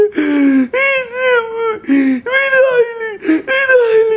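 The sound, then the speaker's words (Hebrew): A voice puts on exaggerated, theatrical crying: four loud, drawn-out wailing sobs in quick succession, with wavering pitch and short catches of breath between them. “אני עושה הצגה, אבל לא סתם. אני בוכה.”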